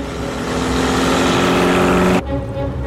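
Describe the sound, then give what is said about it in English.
Robbie's convertible car speeds along a winding road, its engine roaring steadily, its droning hum loud and even, then cutting off abruptly into a quieter, lingering tone. “Robbie's convertible zooms along a windy road.”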